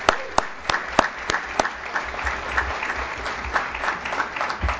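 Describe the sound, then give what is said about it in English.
An audience at the White House applauds the College Promise team, with several sharp, distinct claps at the start that quickly blend into a steady, dense patter of many hands clapping together at a moderate level. “So can we just give Martha and the whole College Promise team a round of applause?”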